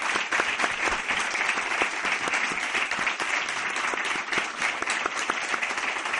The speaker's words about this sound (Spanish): Así que te tenemos que dar las gracias y creo que un fuerte aplauso por parte del público.